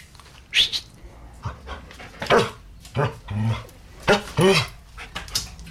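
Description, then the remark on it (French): A dog barks in a handful of short, irregular bursts, mixing sharp barks with softer yips and breathy panting between them. “Voilà, bah, le chien a l'air d'accord.”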